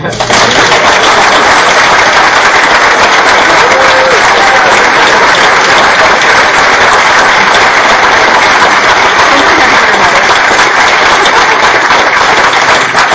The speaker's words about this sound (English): I'd like you to give a round of applause.